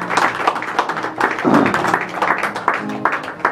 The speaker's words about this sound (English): Let's go ahead and give the Lord a hand clap of praise. Hallelujah. Thank you, Jesus.